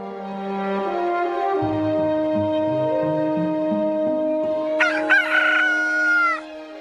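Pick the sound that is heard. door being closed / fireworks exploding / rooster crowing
rooster crowing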